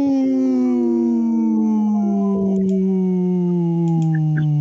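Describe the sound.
A person imitates a wolf howl on a radio show: one long, loud, sustained call, its pitch sliding slowly downward over several seconds with no other talking.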